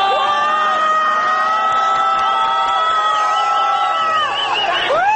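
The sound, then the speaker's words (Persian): A street crowd boos loudly as a group of riot police on motorcycles passes by, many voices holding long, overlapping jeering tones that stay steady throughout before sliding down and dipping near the end. “جمعیت هو می‌کشد.”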